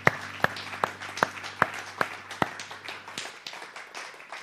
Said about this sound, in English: Would you give God one more hand clap of praise before you're seated?